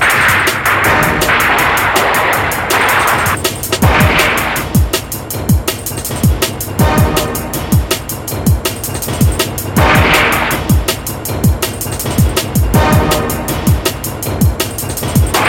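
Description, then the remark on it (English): Rapid gunfire cracks out at night in Detroit in quick, irregular bursts, loud and sharp, over a constant rushing background noise, with no voices. “The shots are coming fast and heavy now here in Detroit, as the night is again broken by gunfire.”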